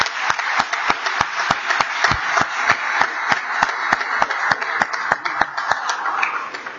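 Applause at a legislative session welcoming former Representative Bruce Goforth of Buncombe County: a dense crackling wash of clapping with sharp, evenly spaced claps beating through it at a steady quick rhythm for about seven seconds.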